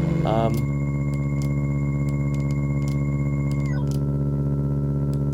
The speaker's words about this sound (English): So let's just kind of break down the original sound sources. We've got... Here's the gears.